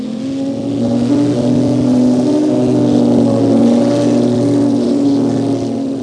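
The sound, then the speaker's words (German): The rough engine of an old, rattly family car revs steadily and loudly as the car lifts into the air, a sustained droning roar with rattly harmonics that swells slightly as it pulls away, with no voices. “Das alte, klapprige Auto der Familie Thunderstorm hebt sich mit einem Mal in die Luft”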